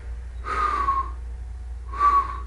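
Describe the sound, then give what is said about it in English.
Two soft, breathy whistles, each a gently falling tone carried on an exhale with a pause between, as a person imitates someone whistling faintly in their sleep with each breath. “Why am I so bad at whistling?”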